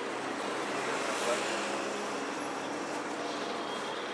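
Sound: bus engine idling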